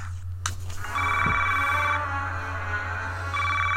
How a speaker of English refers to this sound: It's 3 a.m. and the phone's ringing in the White House. Who do you want to answer that call?